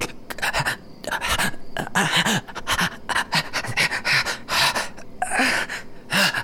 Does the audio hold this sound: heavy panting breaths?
yes